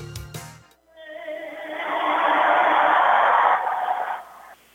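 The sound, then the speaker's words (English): A large crowd at the Cole Center in Madison, at the state wrestling championships, applauds a young woman from Holman High School who sang the national anthem. The clapping swells into a dense, steady roar with some cheering mixed in, holding for a few seconds before cutting off abruptly. “The applause you hear was not for the introduction of David Wermond and myself, but a young lady from Holman High School.”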